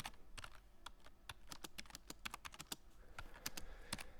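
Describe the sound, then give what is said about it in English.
Rapid, forceful typing on a computer keyboard, the keys hit hard with sharp clicks in an uneven rhythm, loud, with no voices. “You seem to be, seem to be hitting the keys a little hard.”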